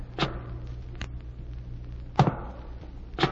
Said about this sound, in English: At night I'd lie in the darkness of my room, thinking of everything that had happened, listening to the night noises. And one night I heard footsteps above me in the tower.